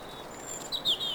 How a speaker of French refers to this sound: Tant les oiseaux ce jour-là se mirent à chanter.